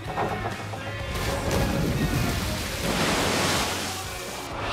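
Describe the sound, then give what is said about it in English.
A big, loud splash into a swimming pool in the film Shallow Hal, followed by several seconds of heavy churning and spray that stays full before fading slightly at the end. “You want to see a splash? I'm going to show you a splash.”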